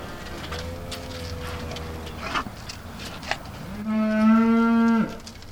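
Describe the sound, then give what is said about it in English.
Beef cattle low on a family farm in northern Indiana during evening feeding chores: a long, softer moo first, then a second, louder bellow near the end, with faint bird chirps and outdoor ambience between them. “Jacob Smoker does his evening chores feeding the cattle. We raise beef cattle primarily.”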